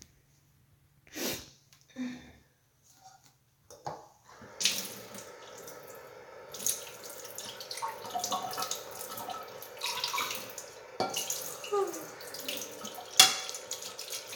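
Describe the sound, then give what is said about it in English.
Dishes being washed under a running tap: a steady rush of water from the faucet with clinks and clatters of plates and utensils, after a few separate knocks at the start. No talking. “You should do the dishes.”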